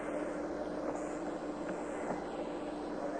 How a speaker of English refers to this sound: This helicopter has picked up a dozen men who have made moon missions. Today brings that total to 15.